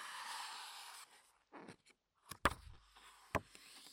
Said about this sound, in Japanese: かなり分厚い、しっかりとした音がします。ほら、立派な本の音がする。